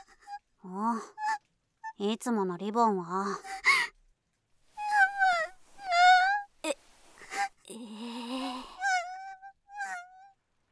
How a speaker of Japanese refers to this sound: なに、あんた泣いてんの？ 泣いてません。 いや、明らかに泣いてるでしょ。たく、どうしたのよ。